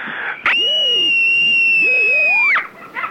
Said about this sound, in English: Screaming is a part of my dreaming. It happens only at night.